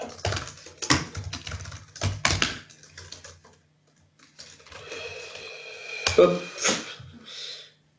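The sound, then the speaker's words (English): Brisk typing on a computer keyboard: bursts of sharp key clicks clatter for a few seconds, pause briefly, then resume with more scattered taps over a faint background hum. “Why does your keyboard feel different to mine?”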